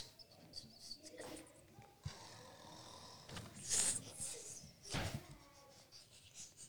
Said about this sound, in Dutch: Wat hoor ik? Nou, grootmoeder kan wel snurken, zeg.